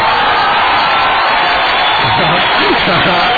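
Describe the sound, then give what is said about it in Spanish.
Loud, steady applause fills the whole few seconds as a dense wash of clapping, with cheering voices and whoops rising over it toward the end. “Además, pinches aplausos, güey, así puedes dar...”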